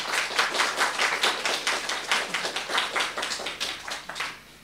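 An audience claps steadily for several seconds, a dense patter of many hands with sharp bright slaps, holding fairly even before fading out at the end. No one speaks.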